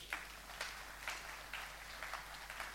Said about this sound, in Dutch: Zullen we eens even een applaus geven?